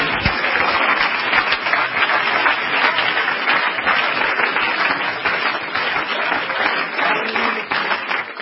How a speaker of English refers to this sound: Let's clap our hands and give him some praise.